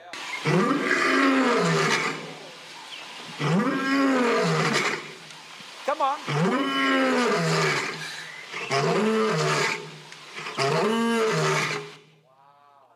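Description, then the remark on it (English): Five loud, drawn-out roaring bursts, each a couple of seconds long with short gaps, sounding like a voice imitating a lion's roar, ending with a brief spoken phrase. “he comes to us as a roaring lion”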